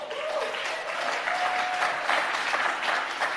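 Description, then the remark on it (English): An audience claps steadily, a dense wash of many hands that holds at an even, fairly loud level for a few seconds, with a faint whistle-like tone briefly cutting through. “And yeah, I want to, that one there, I allowed you to clap.”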